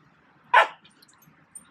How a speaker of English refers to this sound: You can now hear my dogs in conflict with one another.